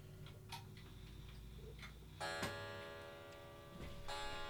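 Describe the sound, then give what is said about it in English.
A clock ticks with sharp, steady clicks over a low background hum; about halfway through, a bright sustained ringing tone rises and lingers beneath the ticking. “We'll have stereo clocks, transatlantic stereo clocks.”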